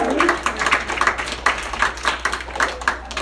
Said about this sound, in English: And hey, go ahead, clap.